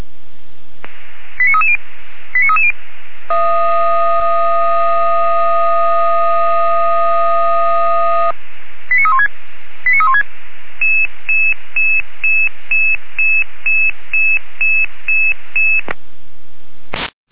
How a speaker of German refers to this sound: Stelle Weimarer Land kommt mit Alarmierung.